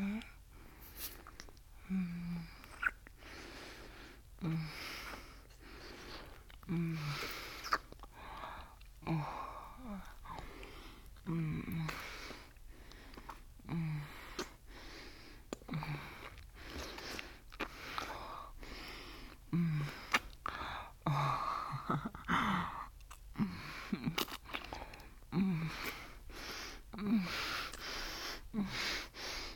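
Repeated buzzing lip trills, short fluttering brrr sounds, mixed with breathy exhales and sniffs, coming in an irregular rhythm at moderate volume with no clear words.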